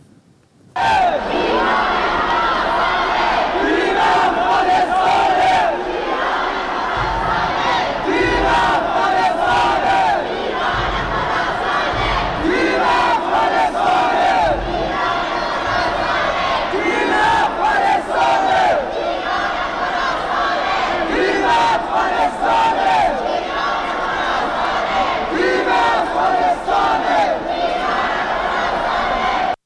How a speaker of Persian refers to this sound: اوایل این هفته تیم فوتسال زیر 20 سال افغانستان در تبریز به فینال بازی‌های آسیایی راه پیدا کرد و زنان و مردان افغان تونستن به سختی برای تشویق تیمشون به ورزشگاه راه پیدا کنن. اینجا فیلمی رو می‌بینید از یک لیدر زن که در حال هدایت هواداران افغانه.